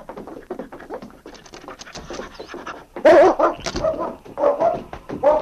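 King, a dog, pants and sniffs in quick, rhythmic bursts, picking up a man's scent from a hat, growing louder halfway through as short whimpering yips break in over the heavy breathing.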